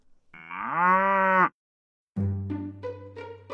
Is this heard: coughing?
no